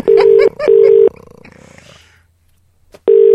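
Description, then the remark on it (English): A telephone ringing tone of a call going through to an answering phone sounds in loud, steady electronic bursts, two close together, then a fading pause and near-silence before a third burst begins. No one speaks. “The thing is, he's got an answer phone.”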